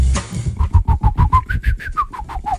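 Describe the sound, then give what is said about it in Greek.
A quick, steady run of about a dozen short whistled chirps, like small birds in the morning, probably a person imitating them. The notes are fairly loud and mid-pitched, with soft low thumps beneath. “Ήδη κάποια πουλάκια εκεί έξω και λαϊδάνε.”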